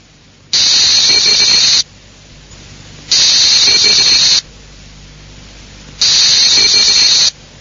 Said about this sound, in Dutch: Van ongeveer 800 tot 1200 letters per minuut. En dat komt neer op zo'n 160 tot 240 woorden per minuut. Vandaar ook dat als je zo'n burst hoort, alleen maar gechirp hoort.